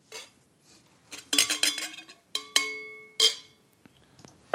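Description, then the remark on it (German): A tasting glass being handled as one glass is swapped for another during a tasting: several bright, ringing clinks and taps against a hard surface, with sustained glassy tones after the louder knocks, interspersed with faint rustling and shuffling. “Warte mal, ich nehme mal das andere Glas hier.”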